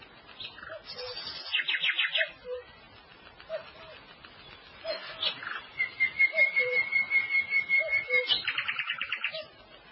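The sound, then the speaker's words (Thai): Several small birds hopping from branch to branch at dawn chirp and trill in quick, high-pitched bursts, overlapping one another, with a sustained thin whistle and a rapid buzzy trill near the end, over soft background hiss. “นกเล็กกระโดดโลดเต้นด้วยความสำราญจากกิ่งนี้สู่กิ่งโน้นและจากกิ่งโน้นสู่กิ่งนั้นพลางก็ร้องเหมือนเสียงทักทายกันด้วยความสุขสดชื่นรับอรุณรุ่ง”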